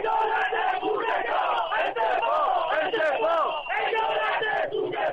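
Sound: crowd of protesters shouting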